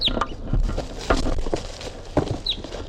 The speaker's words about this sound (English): This is bird 350. And there's a wild bird coming around now. That's 327.